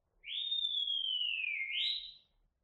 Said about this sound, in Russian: Посмотри, кто там свистит. Это какой-то мальчик бежит сюда.